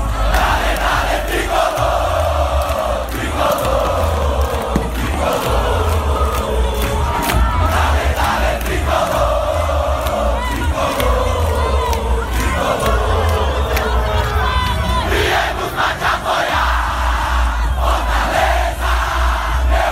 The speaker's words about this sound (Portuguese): Escuta só aí a torcida do Fortaleza, que festa bonita.